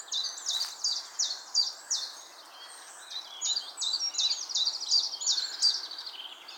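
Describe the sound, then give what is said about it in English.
A common chiffchaff sings a steady run of repeated, evenly spaced high notes, fairly clear against a soft background hiss, with no talking. “I think that's the chip chaff I hear.”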